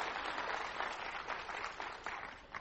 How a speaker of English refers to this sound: Thank you, guys. Big round of applause. Thank you.